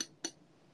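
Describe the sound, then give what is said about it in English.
Two bright glass clinks in Vienna, a quarter second apart, the second slightly louder, each leaving a short ringing tone that fades into quiet room noise. No one speaks. “Glass.”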